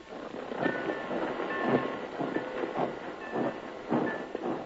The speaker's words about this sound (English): Then after you get that switch engine back on the track, you can dig him one.